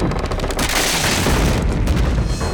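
Rotten wooden planks of a bridge splinter and give way underfoot in a loud, continuous crash, with rapid cracks and snaps piling over a heavy low rumble for a couple of seconds.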